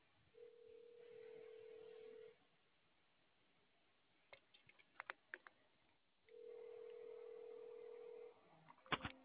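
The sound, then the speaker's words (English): A telephone call in progress: two long, steady ringback tones with a pause between them, where faint clicks and brief beeps sound like buttons being pressed. Nobody speaks. “Let me call her.”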